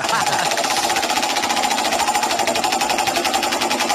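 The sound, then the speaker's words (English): The 'Wheel of Iwan What' prize wheel spinning, its pointer rattling against the pegs in a loud, rapid, even stream of clicks that holds steady for the full few seconds without noticeably slowing. “Make the wheel go for a bit of a spin.”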